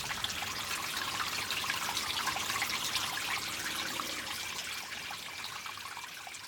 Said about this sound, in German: Wir hören die Quelle. Wir sehen das Wasser fließen.